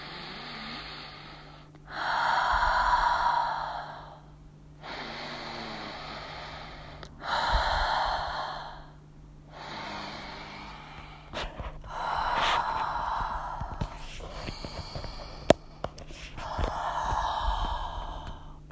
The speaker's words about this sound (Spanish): la vamos a normalizar con otro ciclo de 8 respiraciones profundas por la nariz o por la nariz y por la boca. Vamos a ello.